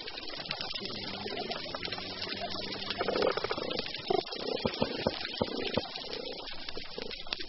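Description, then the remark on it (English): Underwater sounds of a healthy coral reef, played on underwater speakers at a test reef off the coast of Australia: a dense, steady crackle of snapping shrimp runs throughout, overlaid by low, drawn-out croaking and whooping fish calls that swell in the middle, with no talking. “Gordon and his colleagues played that symphony of snapping shrimp and whooping, hammering, croaking fish on underwater speakers for 6 weeks at a test reef built off the coast of Australia.”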